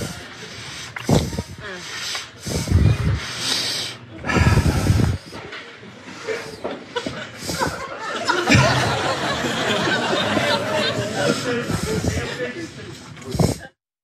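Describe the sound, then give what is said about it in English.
A man breathes heavily, with loud, irregular huffs and snorting exhales spread across several seconds and a steady breathy rasp in between. No words are spoken. “That weird, awkward, heavy breathing.”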